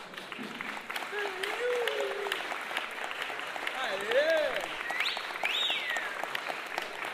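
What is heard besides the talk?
crowd applause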